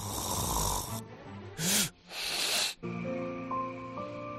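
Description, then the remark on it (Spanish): Loud, rasping snores of a person with sleep apnea come in irregular bursts: one long, then a short sharp snort and another long one. Brief silent pauses separate them as breathing is interrupted during sleep, before a steady humming tone takes over. “Este es el ronquido característico que acompaña a cada interrupción de la respiración que se produce durante el sueño y que suele despertar al que lo padece.”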